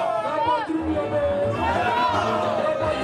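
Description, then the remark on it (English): A crowd of a few hundred anti-coup protesters at a main square in Burkina Faso sings the chant "Our Homeland or Death," a motto of revolutionary figure and former president Thomas Sankara, many voices blending into a loud, continuous, rising and falling melody over a dense background of crowd noise outdoors. “The crowd could be heard singing "Our Homeland or Death," a motto from Burkina's revolutionary figure and former president, Thomas Sankara.”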